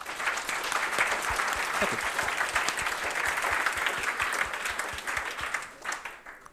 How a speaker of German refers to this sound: Und da nochmal einen herzlichen Applaus für diese Gruppe.